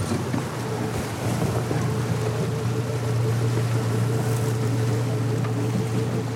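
A boat motor drones steadily for several seconds, a low, even hum with a faint harmonic whine, under a constant wash of wind and water noise. No one speaks.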